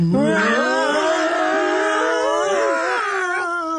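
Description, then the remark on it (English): A person's voice imitates a lion's roar: one long, loud, drawn-out vocal growl with a wavering, moaning pitch, filling nearly four seconds with no other sounds. “Behind them were the lions.”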